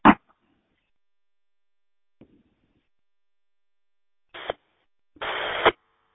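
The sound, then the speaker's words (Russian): Short bursts of a steady electronic tone come through a radio link, one brief blip at the start, a faint click midway, then two tone bursts near the end, the last one longer and buzzier. “Я тон слышу довольно-таки прекрасно.”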